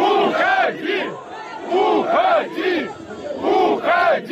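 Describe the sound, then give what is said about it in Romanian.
A large crowd of striking workers at a state enterprise in Minsk chants the shouted word 'leave' at Lukashenko in unison, repeating it three times in a steady rhythm, each loud burst followed by a brief dip before the next. “În timp ce Lukashenko a încercat să răspundă întrebărilor, muncitorii i-au strigat: pleacă!”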